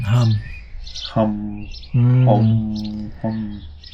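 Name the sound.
sparrows chirping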